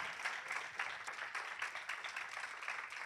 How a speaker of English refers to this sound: With that being said, we ought to give God another hand clap for our dear brother.